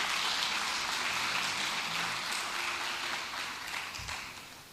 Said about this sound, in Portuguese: Dê a Ele uma salva de palmas, porque Ele é bom.